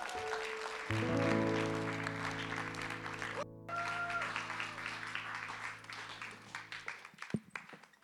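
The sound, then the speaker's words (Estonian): A crowd claps and applauds steadily for several seconds to welcome a speaker, a dense, lively wash of hands, while sustained musical chords play underneath before the clapping tapers off. “ole hea tule ja annan talle ühe tervitava aplausi.”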